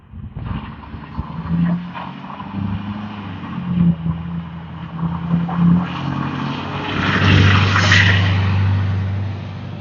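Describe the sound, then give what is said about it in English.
A single loud pickup truck engine rumbles, its low growl building and swelling as the vehicle drives past in a neighborhood, peaking near the end with no one speaking. “Another single loud pickup truck.”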